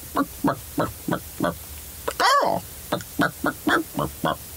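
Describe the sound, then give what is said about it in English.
Actor Alan Tudyk, in an outtake from his recording booth while voicing the chicken Heihei, imitates a chicken, making a steady run of short clucks with one louder, drawn-out squawk partway through. “There's an excellent outtake where he's just waving around in his recording booth making chicken noises.”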